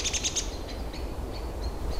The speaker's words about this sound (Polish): Trochę zaniepokojony tym, że jesteśmy. Nie, to nie my. W tym momencie w ogóle one nas nie widzą i nie słyszą. Walczą o terytorium? W 100% zajęte sobą. Na ogół tutaj taki ten już ostry dźwięk to było zdenerwowanie u kosa.